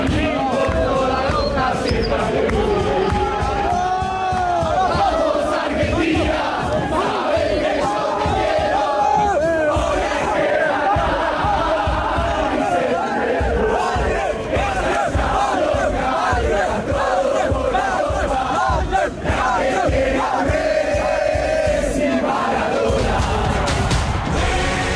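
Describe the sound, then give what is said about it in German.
A large crowd of celebrating football fans sings a chant together, a song ending with a line about now winning the third star, a dense, loud wall of voices holding a melodic line with rhythmic swells, steady throughout with no single speaker standing out. “Das ist doch der Song, der am Ende damit aufhört und jetzt holen wir den dritten Stern oder so, ne?”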